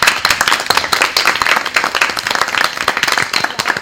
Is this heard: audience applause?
yes